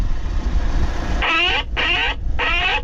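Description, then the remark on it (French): Three harsh, raspy Eurasian jay screeches in quick succession, loud, over a steady low engine-like rumble: a recorded jay call played to scare birds, beside a large yellow Paris-Aéroport vehicle. “c'est quoi comme oiseau qu'on a entendu? Donc là, spécifiquement, c'est le jet des chênes”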